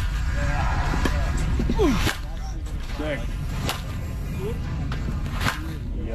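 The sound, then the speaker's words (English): Several sharp, bright cracks of a baseball bat striking a ball as Tigers player Spence, nicknamed Torque, hits during batting practice at spring training, ringing out at irregular intervals over a steady wash of background murmur and scattered voices. “Just the noise from spring training.”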